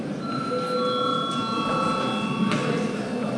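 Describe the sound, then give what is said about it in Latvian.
A parliament chamber bell rings before members register, as a steady, sustained electric tone with several clear pitches held for about three seconds over a constant wash of background noise and faint rustling. “Lūdzu zvanu.”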